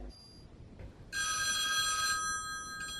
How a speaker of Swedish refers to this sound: Vem är det det ringer hos? Det ringer hemma hos mig. Jag har en dum ADSL-uppkoppling. Så lyfter jag luren så bryts...